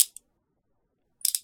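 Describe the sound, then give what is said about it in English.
Handcuffs click shut on a person's hands behind their back: a quick metallic tick, a pause of silence, then a short burst of rapid ratcheting clicks as the cuffs tighten. “Are the cuffs too tight?”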